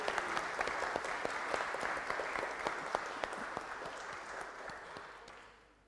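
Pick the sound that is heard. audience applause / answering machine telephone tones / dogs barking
audience applause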